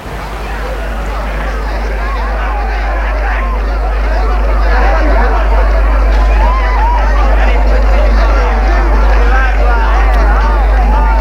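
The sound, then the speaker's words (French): Dense crowd hubbub fills a busy restaurant-nightclub with South American operetta-style decor, many overlapping voices forming a steady, loud babble with a deep low rumble underneath, no single speaker standing out. “Il y a foule.”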